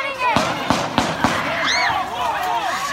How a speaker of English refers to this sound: So it was this really tense scene that I was seeing. And pretty quickly, the thing that you might be afraid would happen in that kind of scene occurred. There were gunshots.